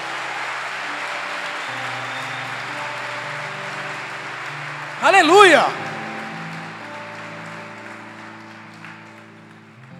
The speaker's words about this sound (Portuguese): Se você está feliz por nós, dê uma salva de palmas em forte a Jesus.